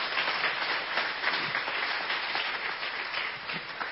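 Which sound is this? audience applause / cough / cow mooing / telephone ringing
audience applause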